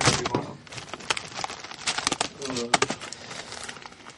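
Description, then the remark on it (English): Dice rolled for damage clatter and tumble across a hard surface in a rapid, irregular scatter of sharp clicks and knocks that fade out over a few seconds, with a brief murmur of voice partway through. “Sorry. Dice.”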